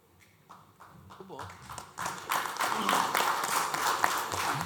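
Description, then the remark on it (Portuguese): Applause from an audience of about 28 people starts with a few scattered claps, then swells after a couple of seconds into steady, dense clapping that stays loud to the end, with voices mixed in. “Pelos aplausos, eu contei umas 28 pessoas que estão dispostas a trabalhar nesse projeto.”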